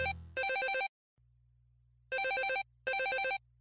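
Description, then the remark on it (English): A telephone rings in loud, trilling electronic bursts, three distinct rings separated by short pauses with a low hum between them. No one speaks. “Hey, it's for you.”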